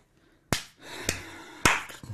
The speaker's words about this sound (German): Das ist Klatschen. Also. Klatschen mit einer Hand. Mit zwei Händen?